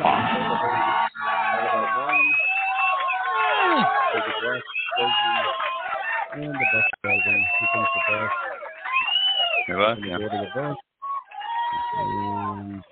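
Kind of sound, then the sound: crowd, crowd cheering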